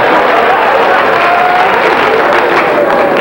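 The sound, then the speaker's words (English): An audience breaks into sustained applause, a dense, even wash of many hands clapping at once, holding steady and loud for a few seconds with a faint murmur of crowd voices mixed in. “You're supposed to clap for them.”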